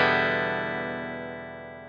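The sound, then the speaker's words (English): A single chord strummed on a clean electric guitar with no effects rings out and slowly fades over a couple of seconds, moderately loud, with no one speaking. “So this is the clean guitar sound.”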